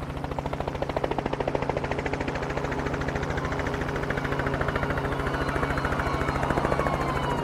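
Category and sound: vehicle, loud helicopter flying overhead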